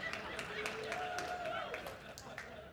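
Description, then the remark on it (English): A crowd, seemingly many of them women, claps and cheers steadily, with sharp hand claps scattered through a dense wash of applause and a few excited voices rising above it. “Seemed to be a lot of female clapping there.”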